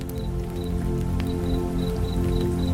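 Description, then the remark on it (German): Clear spring water splashes steadily into a basin like a small fountain, small splashes wetting the surrounding surface, with occasional brighter drips and short high tones repeating in a loose rhythm. Continuous, with no voices. “Kleine Spritzer benetzen die umliegende Fläche.”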